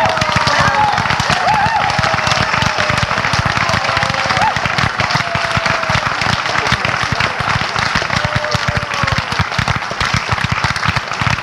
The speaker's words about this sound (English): to share that wonderful applause, ladies and gentlemen, with the ladies and gentlemen of this wonderful orchestra. Thank you.